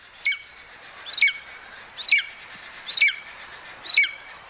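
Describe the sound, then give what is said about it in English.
A golden eagle gives five short, thin, high-pitched calls at a steady pace about one second apart, the calls it normally gives around the nest site, clear against a quiet outdoor background with no talking. “And let's take a listen to a golden eagle, too, just in case you're able to hear them in addition to seeing them.”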